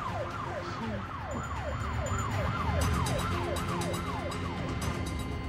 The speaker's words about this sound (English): A police car speeds past her and pulls Janet over.